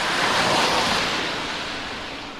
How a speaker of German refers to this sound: Und wie zum Beweis hat es draussen, auf der Hauptstrasse, auf einmal den gleichen Verkehr. Fast alles Auto mit Obwaldner Nummer.